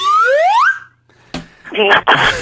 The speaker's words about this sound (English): What is it exactly? It's a slide whistle. It's a slide whistle. It's the same kind of whistle that clowns use.